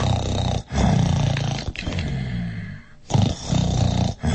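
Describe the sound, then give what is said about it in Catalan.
Loud, deep, rumbling snores of a giant in a story, who fell asleep in his castle while counting money, snoring so loudly the whole castle trembles. About three or four long drawn-out breaths in a row with short gaps between, growling and throaty with no talking. “I feia uns roncs que tot el castell tremolava.”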